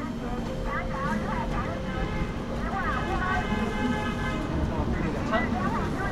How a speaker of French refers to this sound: Enfin du bruit, des détritus, de la poussière, des boutiques, des gens qui crachent et qui braillent, qui discutent, qui pestent et qui rigolent à gorge déployée dans un concert de klaxons. La Chine.